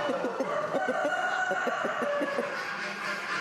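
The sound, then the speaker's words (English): Caged show chickens cluck in quick, rhythmic bursts while a rooster in a next-door cage crows, at a poultry show with many birds, set against a steady background hum. “a cock in a next-door cage to one of Willie's lads feels he already has had enough of the show”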